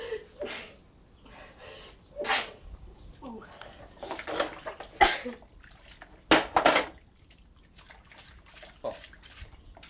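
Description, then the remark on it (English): A few sharp, breathy sneezes burst out at uneven intervals, loud, with softer rustling and murmuring sounds between them. “Sneeze.”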